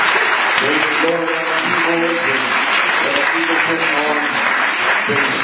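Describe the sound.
A crowd applauds the band's drummer steadily and loudly for the whole stretch, a dense wash of clapping with a few cheers and voices mixed in.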